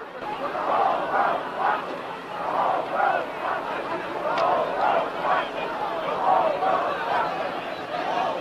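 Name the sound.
protest crowd chanting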